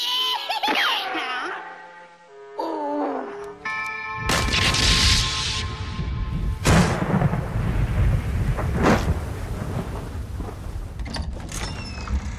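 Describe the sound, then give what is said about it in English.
A very loud doorbell chimes in ringing, sustained tones, then gives way to heavy rumbling booms that roll on like thunder and drown out everything else. “Loudest doorbell I ever heard.”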